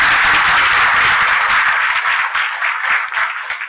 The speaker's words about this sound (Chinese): 对不起，我话太多了，还是再一次热烈掌声欢迎许代表。